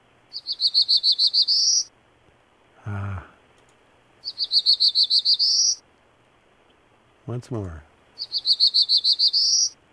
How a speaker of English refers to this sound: it's different from Prairie Warbler because instead of being just one section of everything's all the same, it's two distinct sections, and that's how you can tell them apart very easily. Well, let's listen to the Black-Throated.